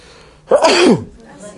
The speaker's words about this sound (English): Okay, everyone relax. It's just a sneeze. It's a common cold. Just relax.